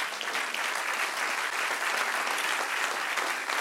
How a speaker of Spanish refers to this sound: Dale un aplauso al Padre.